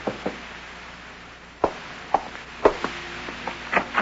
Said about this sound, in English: You're glancing at your watch when there's a knock on the door.